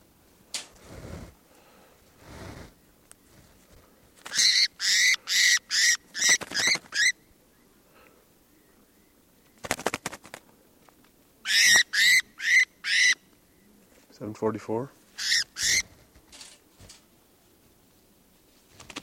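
Bird calls ring out in loud, rapid bursts of sharp, high-pitched notes, coming in several rhythmic runs separated by pauses, with one lower, throatier call in between. No voices.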